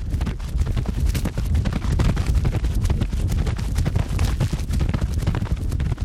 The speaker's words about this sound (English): And I put 4 wireless microphones on each hoof. We wanted to control the speed of the horse, so we had the trainer run the horse in a circle with a rope.